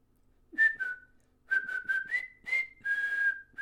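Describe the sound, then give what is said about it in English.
A person whistles a short, simple movie tune, a few sustained notes with brief gaps between them, alone with no talking. “See? I can whistle. It's the tune from The Breakfast Club.”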